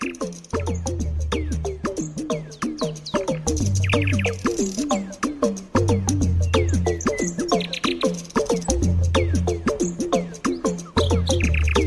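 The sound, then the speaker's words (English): A nightingale sings continuously in a rich, varied stream of whistles, trills and rapid clicking notes, loud and unbroken, with a steady low hum underneath and no voices. “But for now, it's goodbye from me and that nightingale.”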